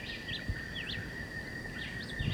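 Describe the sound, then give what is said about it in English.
A John Chewit vireo, about 30 meters away, repeats short, slurred whistled phrases while a woodpecker calls, all over a steady, high-pitched insect drone in an outdoor setting. “So there's both John Chewitt and the woodpecker here.”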